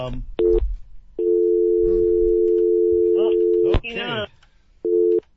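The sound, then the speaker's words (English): A telephone dial tone on a radio call-in line's phone system during testing: a short beep, then a long steady electronic hum lasting a couple of seconds, then another short beep. A voice briefly speaks near the end of the long tone. “All right, the phone system is, same button, but that's okay, because they'll call back if they need to.”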